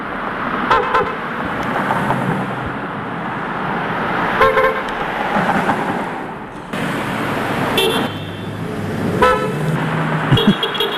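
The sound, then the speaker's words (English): Car horns honk repeatedly over steady road noise, a heavily edited sample of 37 cars honking for a ceasefire in Gaza over 20 minutes around 4 o'clock on January 1st, with several short blasts and a few longer toots, some overlapping in quick multiples, loud. “here's a heavily edited sample of the 37 cars who honk for a ceasefire in Gaza in 20 minutes around 4 o'clock on January 1st.”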